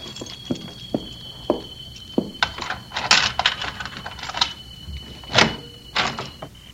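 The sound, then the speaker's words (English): Keys jingle and scrape in the lock of a locked door, with a series of sharp metallic clicks and clunks as the bolt turns, over a faint steady high-pitched whine. “Oh, locked. Keys.”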